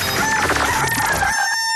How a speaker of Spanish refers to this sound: ¡Charán! El gallo de Radioactiva.